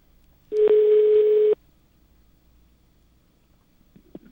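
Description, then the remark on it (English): A telephone line rings once through the earpiece: a single steady electronic buzz lasting about a second, then near silence with a couple of faint clicks. “Now it's ringing.”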